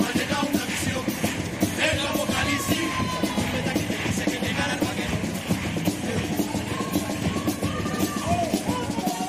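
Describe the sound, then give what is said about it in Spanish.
A theatre audience breaks into steady, loud applause for a chirigota carnival group, dense clapping running throughout with shouts and whoops of cheering rising over it, holding a fairly even level for the whole stretch. “El aplauso.”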